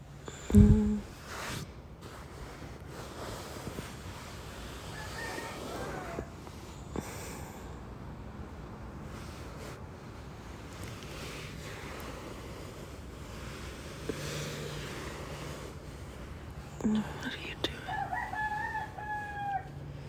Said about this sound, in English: Well, now that the roosters are up, let's go to sleep.